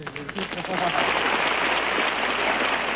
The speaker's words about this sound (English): Oh, please, stop. Oh, please. Oh, thank you. Please, no applause, no applause. With all that applause that sets up a big wind, I'll catch a cold and wind up sounding like Tallulah Bankhead.